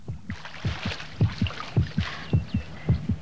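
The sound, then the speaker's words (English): A heartbeat thuds in low, paired lub-dub pulses as a character's heart rate increases, about six beats at a quick, insistent pace, over a soft wash of hissy, watery background noise. “Eric's heart rate's increasing.”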